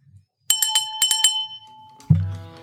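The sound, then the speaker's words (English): A small, bright wine bell is rung rapidly about five or six times, its tone ringing on and fading, before a lower, fuller tone sounds at the end. No one speaks. “Wine Bell.”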